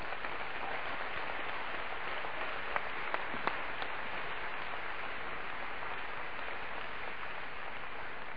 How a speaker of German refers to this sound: Ja, lass uns jedes Mal einen Applaus geben.